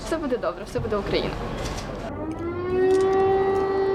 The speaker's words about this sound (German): Luftalarm, Sirenen. Alltag in Kiew, in Charkiw, in Lemberg.